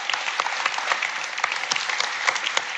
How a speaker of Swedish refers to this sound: Ja. En applåd för Klöverkung.